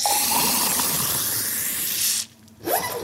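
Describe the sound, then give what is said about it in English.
Soda water hisses and sprays into a Campari Seltz glass holding Campari, making a Campari Seltz cocktail, in a loud, steady rush for about two seconds, cuts off briefly, then bursts again with a rising whoosh. “One part of fruits and Campari in the Campari Seltz glass, and then soda, Seltz, water, splashed in this sense.”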